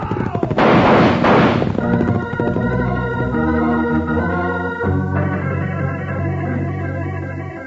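A loud, crackling volley of gunfire from men defending a cattle herd being driven to Willow Springs bursts out for about a second, shots blurring together, then gives way to sustained, tonal music with no voices.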